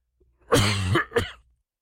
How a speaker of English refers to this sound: I apologize in advance if there is any unexpected coughing today. My voice is way better than it was.